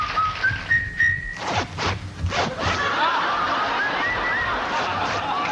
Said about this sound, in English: To a trio that whistled and used their pant zippers to make music.